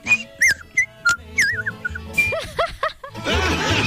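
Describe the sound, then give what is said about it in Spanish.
A person whistles in quick, warbling bird-like chirps: a dozen or so short high notes that swoop up and down in uneven bursts, ending in a rough, noisy rush of sound. “Otro nivel acá y el otro amigo hablando pájaro.”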